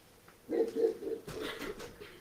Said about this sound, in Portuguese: O cachorro está querendo comer as pessoas aí.